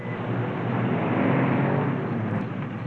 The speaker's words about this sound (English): Wait a minute. A staff car and a truck.